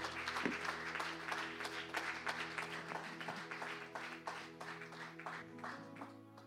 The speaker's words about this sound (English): Give the Lord a hand clap of praise in his house this afternoon.